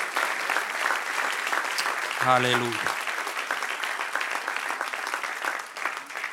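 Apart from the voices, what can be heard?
audience applause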